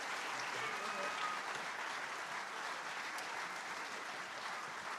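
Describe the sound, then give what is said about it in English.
A crowd applauds Mariachi Wenatchee, a student mariachi group from Wenatchee, Washington. The dense clapping holds at an even loudness through the whole stretch, with no voices rising above it. “Another round of applause for Mariachi Wenatchee from Wenatchee, Washington.”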